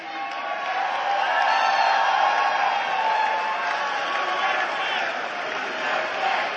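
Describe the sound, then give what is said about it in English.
A large audience claps and cheers steadily for a speech by Donald Trump about tariffs, a dense, sustained roar of applause and shouting that holds at an even loudness for several seconds without pause. “Everyone clapping in that audience is spiritually cooked.”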